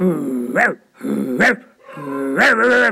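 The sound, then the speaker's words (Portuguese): A dog growls low and breaks into a bark, three times in a row with short pauses between, the last burst longer and rougher. Loud, with no talking. “Aí o chefe dos cachorros foi perguntar para São Pedro: São Pedro, por quê?”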